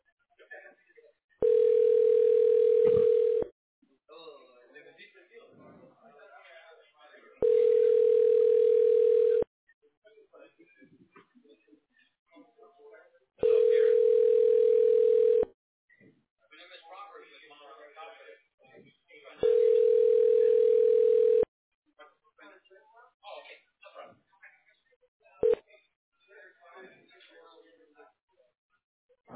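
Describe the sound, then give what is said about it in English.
A phone ringback tone sounds four times, each steady two-second burst separated by a few seconds of quiet, loud, with faint murmuring and small noises in the gaps. “See, the second call is not silent anymore. It rings.”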